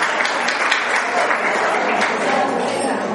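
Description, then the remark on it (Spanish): A crowd applauds the men in the audience, who are raising their hands, in a steady, dense wash of clapping that holds at an even loudness throughout, with a murmur of voices mixed into the noise. “Dije, mire, los aplauden, dejen la mano arriba que los están aplaudiendo, hombre.”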